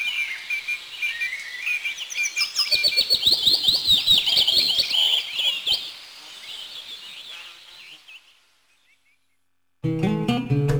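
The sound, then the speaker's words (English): Spring birds sing in a busy, high-pitched chorus of chirps and trills, with a run of sharp rhythmic taps midway; the song fades to silence, then a harmonic, music-like sound starts abruptly. “We'll get a primer on spring bird songs across the country next time, here and now.”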